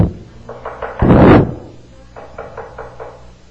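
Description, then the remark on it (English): Someone raps on a door in two quick rounds of knocks, about four then five, separated by a louder heavy thump, fairly loud with no talking. “He says, I stand at the door and knock.”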